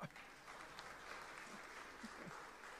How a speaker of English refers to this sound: Yeah, you can give him a clap.